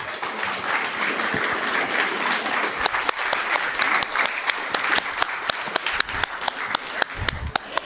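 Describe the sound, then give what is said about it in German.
An audience at a Jugend hackt event claps steadily throughout for all the project groups, a dense wash of many hands with sharper individual claps popping out toward the end, no voices over it. “Einen großen Applaus für alle Gruppen noch einmal.”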